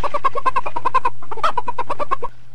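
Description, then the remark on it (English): A chicken clucks in quick, rhythmic bursts, two rapid runs of mid-pitched clucks separated by a brief pause, over a faint steady low hum. “Straight from the chicken's beak.”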